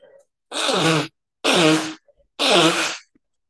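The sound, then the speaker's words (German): Three loud, honking nose blows in a row from a person with a slight cold, each about half a second long with a raspy, buzzing edge, separated by short pauses and with no talking. “Entschuldigung, ich muss mal eben meine Nase putzen.”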